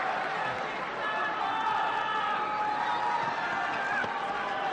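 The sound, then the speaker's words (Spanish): A tennis crowd on Court Philippe Chatrier roars steadily, with many voices shouting "Alcaraz" in drawn-out, pitched calls during Carlos Alcaraz's match against Alexander Zverev, rising above the dense, continuous wash of cheering for the whole stretch. “Bueno, si gritan Alcaraz, Alcaraz, vamos bien.”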